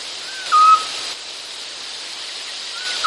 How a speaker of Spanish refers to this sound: ¿Sabrías reconocer el canto de un autillo? Suena tal que así.